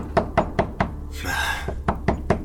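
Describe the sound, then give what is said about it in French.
Heavy, repeated pounding on a door, about seven hard blows in a steady rhythm, broken midway by a brief burst of rough, noisy rustle before the banging resumes. “Et les booms sur la porte continuent, sans cesse, toujours plus fort sur ces quelques secondes de réflexion et de panique.”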